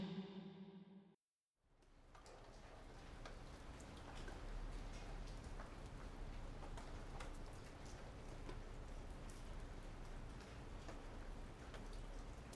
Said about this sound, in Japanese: 朝、雨が降っていて、部屋はいつもよりだいぶ薄暗かった。